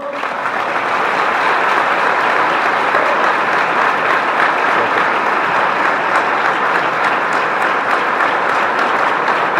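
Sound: applause sound effect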